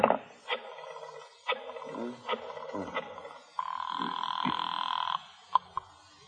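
A telephone rings at the Cairo Theatrical office in a steady buzzing tone that lasts about a second and a half, preceded by a few sharp clicks and followed by a couple of brief knocks.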